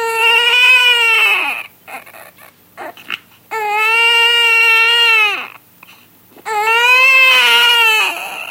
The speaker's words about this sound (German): Wir wissen, dass Säuglinge, also Kinder im ersten Lebensjahr, bis zu einer Stunde pro Tag schreien. Schreien ist ja Ausdruck der Kommunikation. Wenn ihnen etwas fehlt, dann kommunizieren sie dies über Schreien.